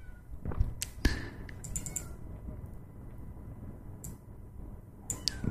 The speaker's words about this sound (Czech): Bohužel se mi dobývá kocour český lvíček na dveře,